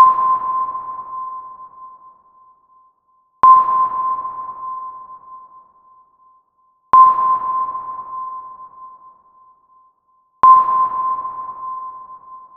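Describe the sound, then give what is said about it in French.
Hull sonar pings from a ship, heard in the ship's lower decks, sound four times at steady intervals of about three and a half seconds, each a sharp, mid-pitched electronic tone that rings out and slowly fades before the next, with no talking. “On entendait les émissions des sonneurs de coq. Bip! Et à intervalles réguliers.”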